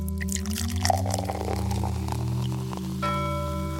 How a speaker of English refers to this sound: Let's pour one out for the burnt up manservant. This goes out to all our fallen homies, yo. Pull out a little liquor.